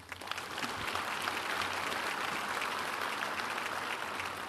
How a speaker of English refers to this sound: How about a round of applause for the people who put this dinner on?